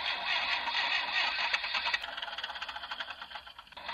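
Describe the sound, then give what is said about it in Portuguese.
A tractor engine cranks over with a rough, rhythmic churning and rattle, struggling without catching on the first try. It is loud, with no voices. “E aí, meu amigo, o seu trator tá que nem esse aí? Já não pega mais na primeira?”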